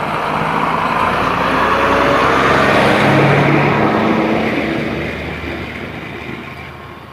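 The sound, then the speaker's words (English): A heavy dump truck rumbles past in the morning, its loud engine and road roar swelling to a peak midway and then slowly fading as it moves away. No one speaks. “It's noisy here this morning. Here comes a dump truck.”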